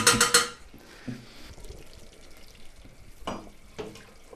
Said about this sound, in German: Geschirrklapper.